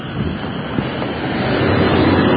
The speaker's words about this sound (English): Car passing will mask out the sound for a little bit.